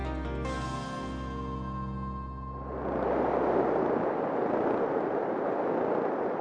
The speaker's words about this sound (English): This deafening racket is the sound of noisy fish sex, the mating calls of Gulf Corvina. And when you're on the boat above a large school of Gulf Corvina making noise, it sounds kind of like the background noise of a baseball stadium